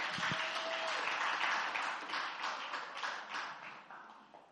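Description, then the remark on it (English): An audience at Last Adam Tabernacle claps for the worship team in a dense, sustained burst of applause that holds steady, then gradually thins and fades toward the end, with no voices standing out. “Give them another big hand clap.”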